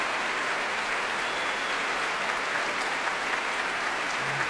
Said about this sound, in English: the Albert Hall absolutely packed to the roof tonight. Maria Agresta making her way through the orchestra, Antonio Papano standing back and applauding her, telling her no, she must go forward and take a bow, as now she does.